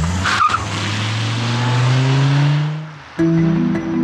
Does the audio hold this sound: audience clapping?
no